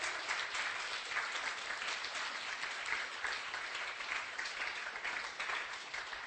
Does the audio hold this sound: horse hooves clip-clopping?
no